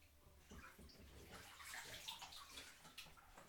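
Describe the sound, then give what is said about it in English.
Water pours steadily into a big bathtub, a continuous splashing rush with bright, bubbly gurgles, with no voices. “Well, there's quite a big bath of water here.”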